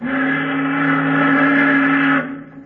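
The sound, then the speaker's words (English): The steam whistle of a tramp steamer, a freighter, gives one long, steady, loud blast lasting about two seconds, with a deep harmonic tone and airy hiss, then cuts off abruptly. “What's a tramp whistling for, Daddy?”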